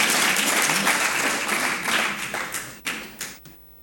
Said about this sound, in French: Alors, on peut l'applaudir.